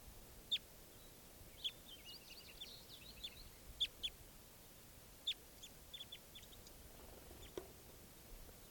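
Several birds chirp and tweet in short, high-pitched bursts, scattered irregularly and sometimes overlapping, fairly soft over a steady background hiss, with no talking.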